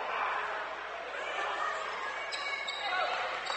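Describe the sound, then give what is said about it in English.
A basketball is dribbled repeatedly at midcourt on a hardwood court during a game between Lehman and Covington, its bounces partly buried in a steady wash of arena crowd noise and murmured voices. “Here is Gilardi running the show at midcourt. He's on the bounce.”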